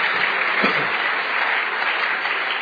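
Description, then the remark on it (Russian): An audience bursts into steady, dense applause, many hands clapping together in a continuous wash of sound that holds at an even, fairly loud level throughout, with no voices over it. “Подари Богу аплодисмент.”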